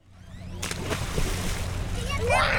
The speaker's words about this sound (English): Along the banks of the Rio Grande, a small group of kids splash in the murky water. They wear shorts with no shirts, and they leap from a makeshift dock into the river.